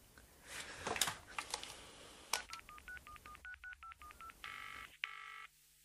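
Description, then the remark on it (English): After some handling clatter, a phone keypad beeps out a quick, even run of short dialing tones, followed by two longer, louder tones before fading to quiet. “Wonder if he's answering the phone yet.”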